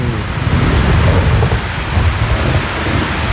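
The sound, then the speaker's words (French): A steady thunderstorm at night with lightning: dense rain hiss fills the air while deep, rolling thunder rumbles continuously underneath, loud, with no voices present. “On va écouter l'orage et la pluie, là.”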